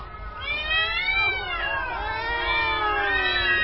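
Several cats screech and yowl at once, their wavering, overlapping wails running loud and unbroken for a few seconds with no voices.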